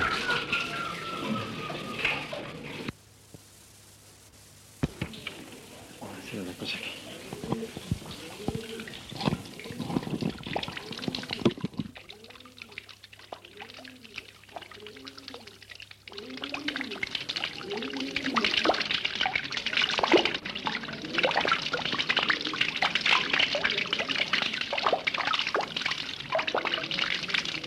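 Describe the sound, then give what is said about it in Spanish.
Water flowing and splashing steadily in Granada, like a fountain or running tap, with brief dripping and trickling sounds; the water grows louder toward the end, with faint voices at moments. “Granada y el agua siempre.”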